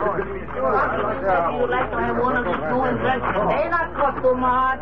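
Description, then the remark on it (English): A crowd gathered in a street chatters steadily, a dense murmur of overlapping voices with no single speaker standing out, holding a fairly even level throughout with a low steady hum underneath. “Oh, so that's why the crowd's gathered.”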